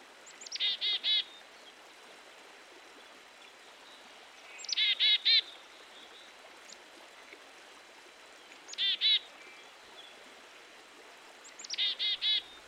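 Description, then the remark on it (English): A black-capped chickadee calls four times, each a quick high note followed by a rapid series of buzzy notes, against a steady rushing background like running water. “This is the black-capped chickadee.”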